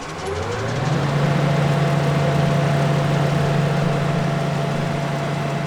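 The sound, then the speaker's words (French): A bell being sanded by machine to make it smooth: a motor spins up in the first second, then holds a steady low hum under a continuous rough, hissing grind. No one speaks. “Je crois que nous arrivons là au ponçage.”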